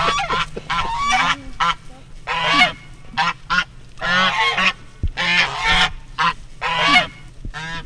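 A pair of African geese named Maverick and Buckles honk loudly and repeatedly, harsh nasal calls overlapping in irregular bursts over a low background hum.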